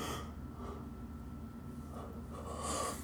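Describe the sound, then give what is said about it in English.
A person yawns, one drawn-out breathy exhale with a nasal, snort-like edge that swells toward the end, with no talking. “Man, yawning.”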